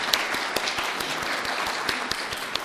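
A room full of people applauding, a steady dense patter of many hands clapping at once with a few sharper claps standing out, moderately loud and continuous throughout.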